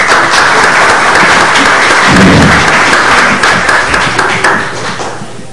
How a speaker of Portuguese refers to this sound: mais uma vez, muito obrigado pela sua presença, uma salva de palmas.